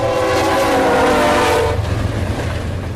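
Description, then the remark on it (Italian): A loud train horn blares steadily for over a second, then cuts off, leaving the heavy rumble and rattle of railcars rolling past in McGregor, a village on the Mississippi River. No voices. “Non questo treno, ma il primo treno dell'anno 1874”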